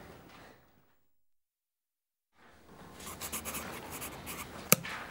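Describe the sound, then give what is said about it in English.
A brief silence, then a pencil scratches across paper in quick strokes for a couple of seconds, ending with a sharp little tap. “Can I borrow your pencil, please?”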